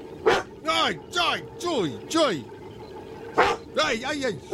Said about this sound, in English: How do you make him bark? I play the doorbell noise. That doorbell noise at the bunker. Yes. You play the doorbell noise and he thinks there's someone at the door, so he starts barking